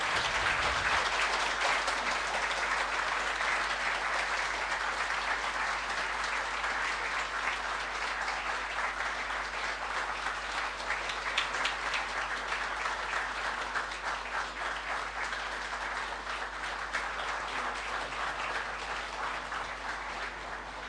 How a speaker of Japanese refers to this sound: 今一度盛大な拍手を持ってお送りしたいと思います。